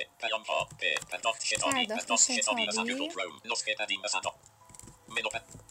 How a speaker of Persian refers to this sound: اگر ای بزنیم، یعنی ای روی کیبورد رو بزنیم، میریم روی ادیت باکسی، با جهت نما میریم بالا.